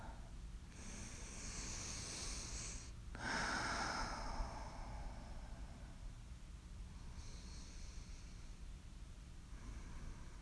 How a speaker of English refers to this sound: Just match your breathing along with mine.